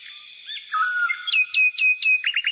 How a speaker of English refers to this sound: We have the birdies chirping up.